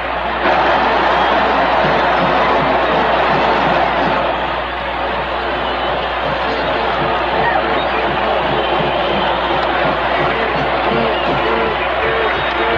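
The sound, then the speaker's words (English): A large stadium crowd at a Huskers football game roars and cheers loudly and continuously after Frankie Solich's 90-yard kickoff-return touchdown, a dense wall of voices with scattered whoops that swells briefly, then holds steady throughout. “Frankie Solich, a 152-pound scooter from Cleveland, Ohio, has brought this crowd to its feet, and the Huskers are back in the lead.”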